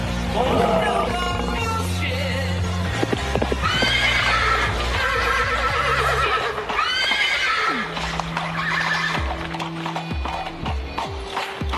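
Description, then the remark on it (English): Horses clip-clop steadily on a cobbled street while several loud, drawn-out neighs and whinnies ring out, over a busy, dense background. “There are horses in the street.”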